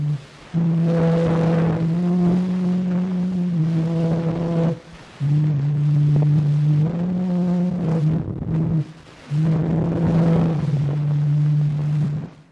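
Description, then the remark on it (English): An early, crude recording of Claude Debussy's Clair de Lune, made with Edward Leon Scott de Martinville's invention that recorded sound waves on a sheet of paper: wavering, reedy sustained notes rise and fall in several phrases separated by short breaks, all under a rough, windy hiss. “Edward Leon Scott de Martinville beat him using an invention that recorded sound waves on a sheet of paper.”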